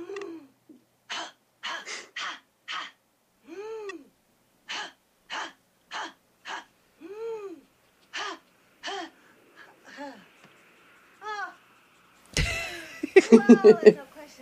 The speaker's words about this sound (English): Oh, well, that's the influence of the right food, right exercises, and the right breathing. Greet the dawn with a breath of fire.